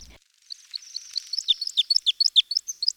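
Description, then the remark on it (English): A flock of Bohemian waxwings gives thin, high trilling calls, many birds overlapping in quick bursts that grow denser and louder over a few seconds, with no voices present. “Bohemian waxwings sometimes set up berry brigades, passing the berries from beak to beak.”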